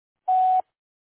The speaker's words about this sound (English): If you've reached my voicemail, please leave a brief message after the tone, and I'll return your phone call as soon as possible.